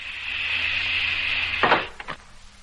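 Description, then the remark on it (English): A steady mechanical hiss runs for over a second, then a vacuum seal breaks with a sharp rush of air, followed by two quick metallic clunks as a section uncouples. “Now to break the vacuum.”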